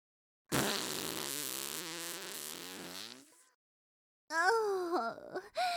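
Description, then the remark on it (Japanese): A loud, drawn-out fart rumbles and sputters for about three seconds, then trails off. After a short silence, a high, wavering vocal cry follows. “出しちゃいました、おなら。それも大噴射。”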